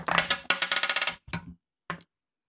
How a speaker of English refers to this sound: So everyone roll your dice. What kind? How many? 5d6s. 5d6.